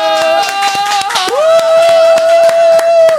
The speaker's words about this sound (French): Je rappelle, est-ce qu'on peut, les amis, applaudir pour notre nouveau docteur?